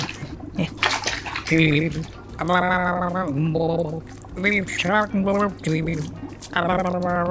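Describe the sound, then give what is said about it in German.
Water sloshes and pours for a moment as a fish is lifted out of the water, dripping, then a loud voice starts singing over a faint watery background. “Warten Sie, ich hol den mal aus dem Wasser raus.”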